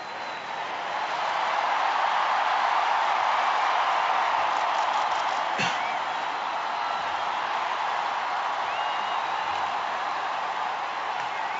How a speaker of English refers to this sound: We're hearing cheers there from St. Peter's Square as we get ready to greet the new pope in Rome on a cold night where there's been a lot of rain. Of course, the square lit up with tremendous lights, and we're hearing cheers. Let's listen.